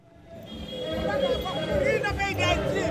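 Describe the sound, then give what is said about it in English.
A crowd of protesters in Port-au-Prince, running behind a van blaring music, shouts together against President Michel Martelly, a dense, continuous roar of many raised voices that swells louder after the first moment and stays energetic throughout. “Running behind a van blaring music, a crowd of protesters shout, "Down with President Michel Martelly and get him out."”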